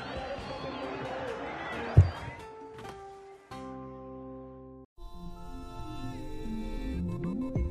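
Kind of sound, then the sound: crowd, crowd noise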